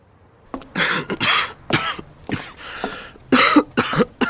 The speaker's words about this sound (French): J'en ai marre de tousser.